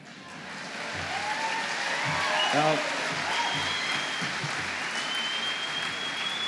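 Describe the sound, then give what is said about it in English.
Sustained applause from a large audience in the Valley fills the whole clip, steady and loud, with a man's voice speaking briefly over the clapping and a few whistles rising above it. “I'll confess, I'm not woke, and by the sound of your applause, you guys aren't woke either.”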